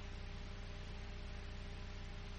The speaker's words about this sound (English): The child empress heard something just for a moment. A kind of distant buzzing, like the interference that consumes a personal phone too near a broadcast array, the sort of brief static that contains a phantom voice or voices.